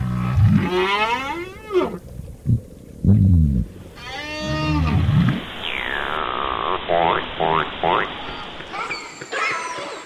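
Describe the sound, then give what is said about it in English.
Whale song echoes underwater in the ocean in a series of long, sweeping moans and rising, falling whistles, some harmonically rich, with brief low grunts between phrases, loud throughout. “Day and night, whales, fish, and other species are singing, using their sounds, grunts, whistles, drumming, echolocation to forage, to find mates, to avoid predators.”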